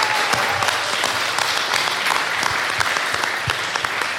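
Loud, sustained audience applause for a correct quiz answer scoring 4 out of 5, with dense, rapid clapping filling the whole stretch, steady in volume from start to finish, with no voices standing out.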